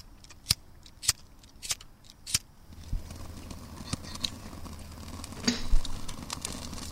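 Several sharp, evenly spaced snaps, then a rising hiss and scattered pops as birch bark and small sticks catch and begin to crackle steadily, with no one speaking.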